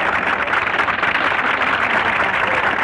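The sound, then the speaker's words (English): Steady, dense applause from an audience, among them a gentleman and a lady clapping real hard, many hands clapping at once in a continuous loud wash with no pauses and no voices over it. “And the gentleman and this lady clapping down here real hard, those are Mama and Daddy.”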